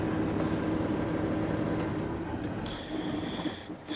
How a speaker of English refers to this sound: It's early in the morning. In my truck, obviously. Yeah. You just turn this engine off real quick for you guys.